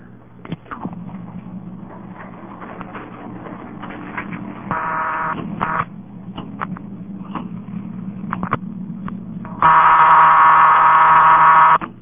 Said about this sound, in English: Sounding busy signal means that my dial wasn't quite exactly the right speed.